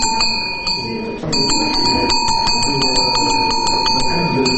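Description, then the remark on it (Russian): A small church handbell rings rapidly and continuously at an exhibition opening, its bright metallic tones overlapping in quick repeated strikes, fairly loud, with a faint murmur of background noise beneath. “Голос колокольчика проще и тише.”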